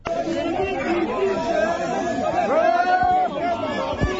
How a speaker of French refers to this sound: Dans les bruits des sifflets et vuvuzelas, ces jeunes magistrats expriment leur ras-le-bol.